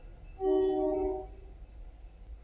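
A single train horn blast, about a second long, rings out over a steady low rumble of passing rail traffic, heard at a house where a WMFO radio show is being recorded; no one speaks.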